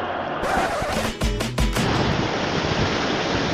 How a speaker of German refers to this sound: Doch, aufgepasst, hier kommt keine Laola-Welle. Hier kommt die perfekte Welle vom Atlantik. Ich bin im sündhaft schönen Cadiz.